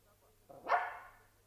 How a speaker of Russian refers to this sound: Безобразие! Кто это впустил в шкаф собаку?